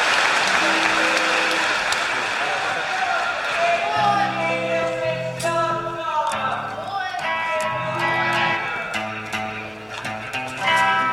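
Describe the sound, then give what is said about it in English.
A restless concert crowd claps steadily and shouts its disapproval at the singer after he plugged in, while sustained instrument notes ring out over the noise from a few seconds in. “The crowd turns on him.”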